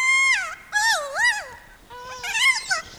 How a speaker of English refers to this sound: They recorded captive kias making those warbling calls, then traveled to New Zealand where they played the recordings for wild kias.